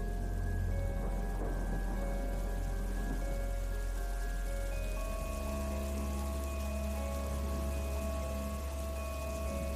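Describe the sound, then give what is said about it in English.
Steady, continuous rainfall during a storm on a dark evening at Flood Meadows in Hampshire, England, hisses evenly throughout, fairly loud, with low sustained tones humming beneath it and no voices. “It's a dark, stormy evening, and I'm walking through Flood Meadows in Hampshire, England, taking a shortcut on my way home.”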